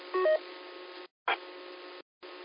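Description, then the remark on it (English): A short burst of telephone dialing tones, thin and band-limited as if over a radio or phone line, broken by two brief dropouts of silence and a crackly burst of static. “Okay, I got a phone call.”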